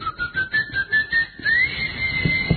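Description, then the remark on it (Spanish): A person whistles a steady, fairly loud tone that wavers slightly and slides upward partway through, with a few soft low thumps near the end; the whistle is meant to make a keychain finder answer with a sound. “Usted le chifla y el llavero le responde.”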